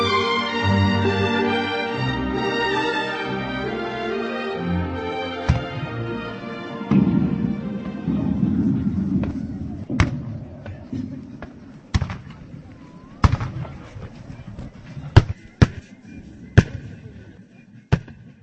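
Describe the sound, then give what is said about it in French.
Cannon fire booms out in a series of sharp, irregular blasts, some close together, after brass-like music fades, with a low murmur of crowd noise between, at a reenactment with period weapons and costumes of Napoleon's battle of 2 December 1805 against Austro-Russian forces, 205 years later. “Les sons de canons, les armes et les costumes d'époque, la même scène que celle il y a 205 ans.”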